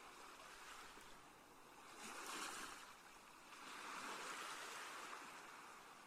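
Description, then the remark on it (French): Ocean waves from a calm sea wash onto a sandy shore in a steady rhythm, leaving foam on the sand. Two broad surges swell around two and four seconds over a continuous hiss of surf, moderately loud, with no voices. “Les vagues s'échouent à vos pieds dans un mouvement régulier et vous rafraîchissent délicieusement.”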